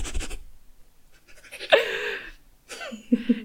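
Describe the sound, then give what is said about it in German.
A dog pants heavily right up against the microphone in loud, breathy bursts, with one stretch turning rough and half-voiced before the quick huffing resumes. No one speaks. “Ich glaube, mein Hund atmet glatt lauter in dieses Mikro, als ich rede, ey.”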